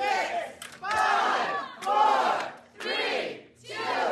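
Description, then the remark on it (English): A crowd shouts a countdown to zero in unison while a player shoots a puck in the second half of a game, four or five loud, drawn-out chanted numbers separated by brief gaps, each swelling and fading in a steady rhythm. “As the crowd counts down to 0, he frantically shoots the puck with disappointing results.”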